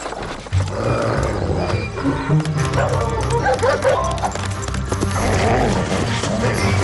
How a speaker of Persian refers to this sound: سمیر با شنیدن صدای سگ خود بیدار شد و دید که او به حال دروازه همسایه را میکند.